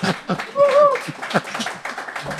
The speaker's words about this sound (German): Ein Applaus bitte. Wir haben es geschafft.